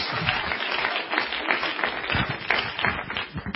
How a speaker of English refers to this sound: Let's clap our hands again. Come on, everybody. Hallelujah.